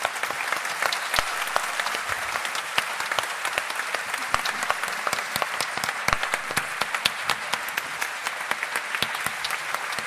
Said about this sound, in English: I'm going to cut the applause short there because of time.